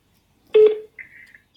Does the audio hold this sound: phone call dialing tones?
yes